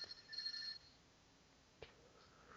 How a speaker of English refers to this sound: So yeah, you got a phone call. I know. I was wondering whether you could hear that.